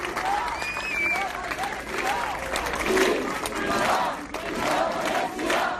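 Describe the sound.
A large crowd outside the Department of Ensenyament building shouts pro-independence chants at 9 p.m. as the voting day ends, voices rising and overlapping in a steady loud roar with bursts of clapping mixed in, continuing for the whole stretch.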